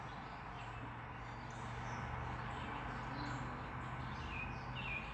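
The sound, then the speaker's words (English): Faint birds chirp and twitter on and off over a steady low outdoor hum, with no one speaking. The calls are soft and scattered rather than one clear song. “Let's just stop for a minute. Listen to the birds.”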